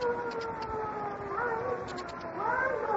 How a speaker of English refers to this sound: There's the siren, the signal. They've picked them up at the border.